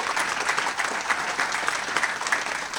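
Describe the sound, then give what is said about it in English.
A steady wash of audience applause at the Investor Summit at Sea, welcoming Patrick Donahoe back for his 7th summit; many hands clapping densely and evenly at a fairly loud level, with no break in the sound and no voices standing out. “At the same time, to revisit old friendships back for his 7th Investor Summit at Sea, how about a hand for Patrick Donahoe?”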